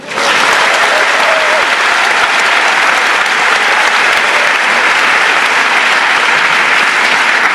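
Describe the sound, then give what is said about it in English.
A large audience applauds loudly and steadily as a chef introduces the members of the cooking team one by one, a dense wash of clapping hands that stays at full strength throughout, with no voices rising above it. “And please, while I introduce them one by one, give them a lot of applause.”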